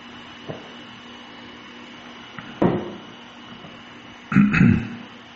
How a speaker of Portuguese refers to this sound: Desculpem, peraí, deixa eu tomar água